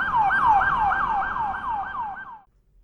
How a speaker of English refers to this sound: An ambulance is on the way.